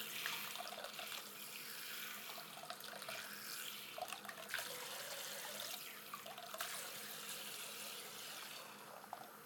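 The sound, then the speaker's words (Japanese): A shower sprays steadily, rinsing shampoo out of hair after the shampoo is finished, the water hiss shifting and splashing unevenly as the stream moves across the head. No one speaks. “でしたら、シャンプーはおしまいですので、シャワーで洗い流します。”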